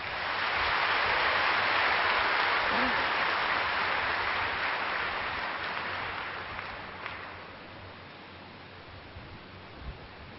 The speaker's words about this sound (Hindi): बहुत अच्छा, अब ताली बजाओ।